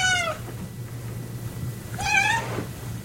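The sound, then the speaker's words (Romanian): A cat meows twice, a short cry at the very start and a fuller, clearer meow about two seconds later, over a steady low hum with no one speaking. “Pisicile pot emite peste 100 de sunete diferite, în timp ce câinii doar în jur de 10.”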